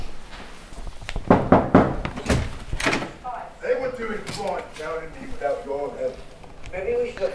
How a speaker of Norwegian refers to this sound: Da følger vi etter deg, og så går vi og banker på døra.